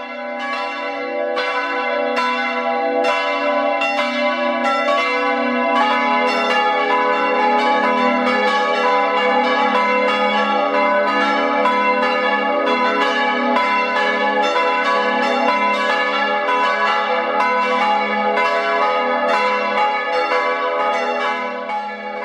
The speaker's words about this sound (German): Moin, wie man hier sagt, und willkommen auf der Nordseeinsel Langeoog. Die Glocken rufen zum Gottesdienst, auch Sie, liebe Hörerinnen und Hörer, wenn Sie mögen. Es sind die der evangelischen Kirche. Die katholische Kirche hat keine Glocken.